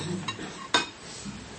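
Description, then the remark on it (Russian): Small communion cups clink lightly against one another, a soft tap followed by a sharper, brighter clink, with a faint background hum. “И стаканчик.”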